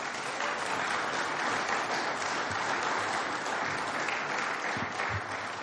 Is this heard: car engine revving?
no